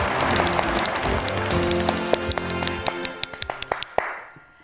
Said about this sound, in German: Begrüßen Sie mit einem gigantischen Applaus die kleine Bettina.